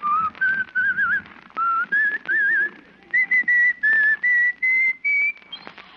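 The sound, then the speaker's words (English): A man walking down an icy street whistles a bright, bouncy melody, short notes rising in pitch phrase by phrase, with brief pauses between them and faint background noise underneath. “Let's follow him now as he walks blithely down the icy street, whistling a merry tune.”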